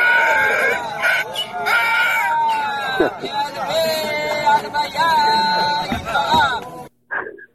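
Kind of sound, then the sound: animal, donkey braying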